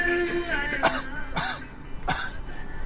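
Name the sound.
coughing and throat clearing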